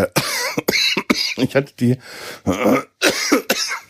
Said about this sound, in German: Entschuldigung, ich brauche einen Schluck. Was für eine scheiß Husterei.